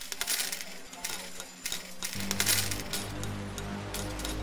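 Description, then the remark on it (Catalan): A slot machine stops and pays out euro coins, a rapid cascade of metallic coins clinking and spilling into a tray over a low mechanical hum, loud. “Una màquina escurabutxaques, s'atura i enragen monedes d'euro.”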